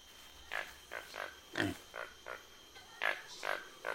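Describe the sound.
A McGregor's bowerbird mimics a pig, giving a rapid series of short, nasal squeals and grunts, about nine bursts in quick irregular rhythm, moderately loud against faint background noise.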